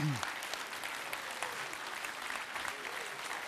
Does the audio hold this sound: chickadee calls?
no